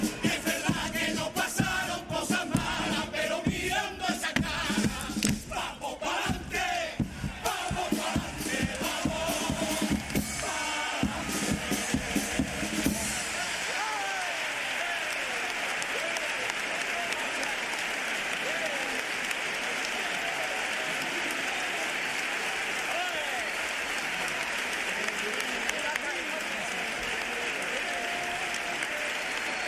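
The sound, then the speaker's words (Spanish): A large carnival audience claps loudly and steadily for a chirigota after its pasodoble, then the clapping gives way to a sustained roar of cheering and voices shouting "campeones" that carries on to the end. “segundo paso doble, segundo momentazo por parte de esta chirigota, que reciben el cariño del público al grito de campeones”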